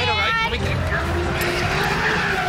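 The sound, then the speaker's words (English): A car skids on a slick road, tires squealing in wavering, rising whines over a loud, steady engine roar, sustained for a couple of seconds. “Whoa, the road's kind of slick.”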